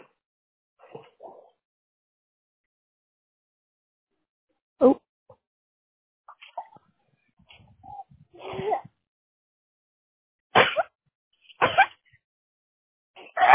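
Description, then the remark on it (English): A few sharp sneezes burst out, one early on and then two in quick succession near the end, with short murmurs and small noises in between. “Bless you.”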